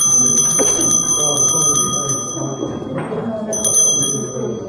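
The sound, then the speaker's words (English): A loud bell rings with a rapid, rattling repeated strike, briefly pausing before resuming, over a murmur of people talking in the background. “When the bell rings.”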